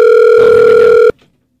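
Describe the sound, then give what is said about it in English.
A telephone rings with a single loud, steady electronic tone for about a second, then cuts off abruptly into near silence as the call is answered. “I'm going to ask her why she's bugging when she answers the phone.”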